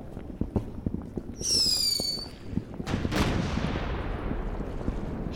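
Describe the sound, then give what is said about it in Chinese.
Fireworks going off: a rising whistle from a rocket, then a loud burst with a crackling, fading tail, over a steady stream of sharp pops and bangs. No one speaks. “哇，你给我准备的惊喜是烟花。”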